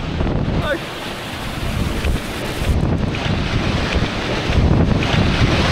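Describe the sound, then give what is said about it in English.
Loud, constant wind roars across a camera microphone at a waterfall coming out of a mountain, with heavy low rumbling gusts buffeting it unevenly, nearly blowing the camera over and blowing water back up, swelling stronger toward the end, no voices heard. “Thought my camera was gonna blow over there. Look at this. Water, whoa, look at the water blowing back up.”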